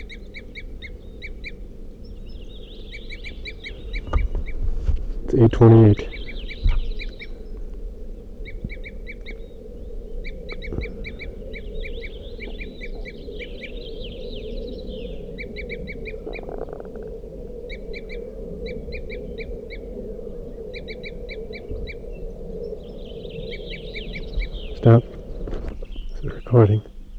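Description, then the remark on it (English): Crossbill calls from a bird at the edge of a clearing: short, sharp, high-pitched 'toop' notes come in quick clustered bursts throughout, repeating steadily over a low background rumble, while a man briefly speaks partway through. “So recording, I hear a crossbill tooping here, right on the edge of the clearing, and I can see the bird silhouetted.”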